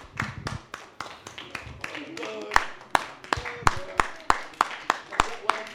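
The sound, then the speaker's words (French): An audience at a stage show claps in a steady rhythm to call a performer up onto the stage, sharp distinct claps coming a couple of times per second, with voices calling out faintly underneath. “Il faut l'applaudir alors”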